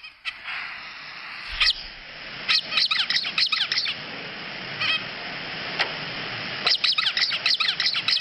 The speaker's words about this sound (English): Is that a Guyanese finch or an American finch? That's a zebra finch. And we're not looking for one of those. Sounds like a dog with a squeaky toy.